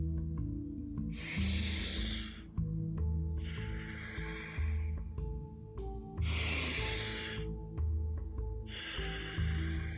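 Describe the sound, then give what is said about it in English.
Slow, steady breathing through the nose: four long, airy breaths alternating in and out, each lasting a second or two with short pauses between, over a soft, low sustained musical drone. “You do it again, you breathe in through the nose and you let go, and then you switch to the mouth, and you do the same with breathing in through the mouth, letting go, breathing in through the mouth, and go.”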